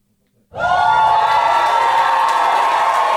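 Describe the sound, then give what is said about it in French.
A loud crowd in front of the stage at the Entrepôt Café bursts into sustained cheering and high-pitched shrieking during the artists' entrance performance at a drag show, after a brief moment of quiet, the roar holding steady and dense throughout. “Devant la scène de l'entrepôt Café, une foule crie lors de la performance d'entrée des artistes.”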